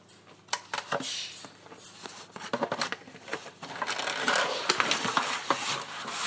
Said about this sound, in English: Well, I've got to get it out of it. It's in one of those shrink wrap sort of polythene plastic bags. So I need a pair of scissors.